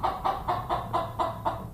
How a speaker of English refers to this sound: He raises chickens himself, including a very talkative one I met inside the store.